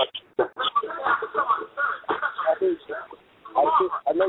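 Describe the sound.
A television plays in the background behind a caller on a phone line to a call-in broadcast, its muffled, tinny voices chattering continuously at moderate volume, thin and narrow-sounding through the phone.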